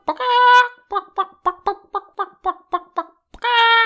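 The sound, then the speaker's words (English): A chicken clucks: a drawn-out squawk, then a brisk, even run of about nine short clucks, and another long squawk to finish. No one speaks. “So today, let's talk about chickens.”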